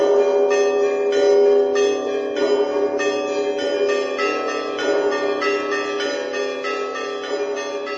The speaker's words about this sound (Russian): Встречали крестоходцев торжественным звоном колоколов.